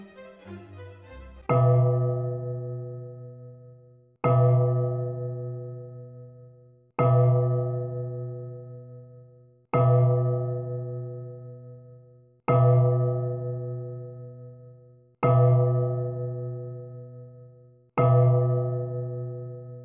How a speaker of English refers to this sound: At length, the sounding of midnight commenced upon the clock. The music and the waltzing stopped at once.